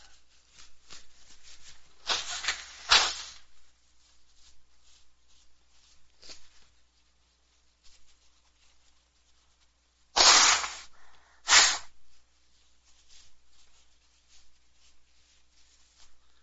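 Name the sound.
blowing nose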